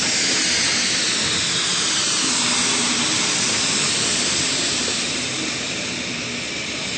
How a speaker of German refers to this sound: Ist die Dampflok fahrbereit, zischt und faucht sie an allen Ecken und Enden. Wie ein schnaufendes Ungetüm.